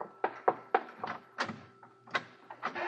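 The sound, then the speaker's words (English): The door to a room in the White House is opened with a quick, irregular series of wooden clunks and rattles, each knock sharp and fairly loud, with no voices. “You can open the door wider, Mary.”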